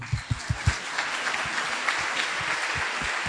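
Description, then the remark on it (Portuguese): An audience applauds a couple's 37 years of marriage, a dense wash of clapping with several sharper, louder claps standing out at the start, steady and unbroken for a few seconds. “Aplaudiam, irmãos.”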